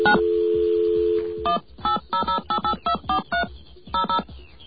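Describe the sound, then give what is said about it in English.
A steady dial tone gives way to a rapid series of touch-tone beeps as a toll-free Bell Atlantic assistance number is dialed, about ten short dual-pitched tones in quick, slightly uneven rhythm, with no one talking. “Shall we call that number?”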